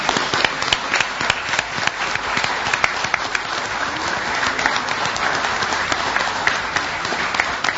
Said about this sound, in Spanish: Sí, es un aplauso para un equipo muy grande, ¿no?